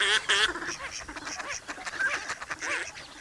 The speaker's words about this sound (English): Carved by glacial winds at the end of the last ice age, the playas are shallow depressions the warmth of spring fills with abundant life. As winter ends, 10 million waterfowl rest and feed here before continuing north.